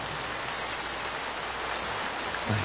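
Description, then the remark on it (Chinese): An audience claps together in a dense, steady wash of applause that holds at an even loudness for the whole stretch, with no voices over it. “哎，这样鼓掌就恰到好处啊！”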